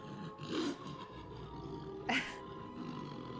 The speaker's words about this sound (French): Bon, c'est assez clair que c'est la pleine lune. On n'arrête pas d'entendre des hurlements de loups. Je ne sais pas si on va en croiser un.